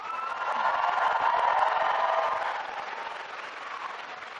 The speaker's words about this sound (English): Now you stay up, you have a great cheering section, but I also want you, all the graduates, to give a big round of applause to all those people who have supported you.